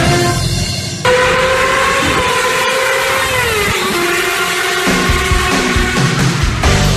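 A motorcycle roars past, its loud engine whine holding steady and then sliding lower in pitch as it goes by, with a rumbling low end and no voices.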